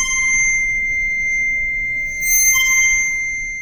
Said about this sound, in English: and use a little bit of rosin, which is what violinists use on their bow, to create friction, we can move our hand along the rod to create this beautiful sound. And we can sustain that sound by moving back and forth, or we can make it really loud.